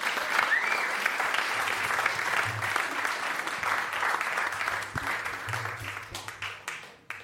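An audience applauds steadily, a dense wash of many clapping hands that holds at full strength for several seconds before thinning and fading out at the end, welcoming jazz musician Ronald Snijders.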